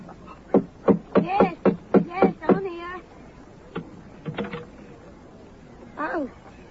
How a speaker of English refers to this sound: Oh, here we are. Just let me knock for you.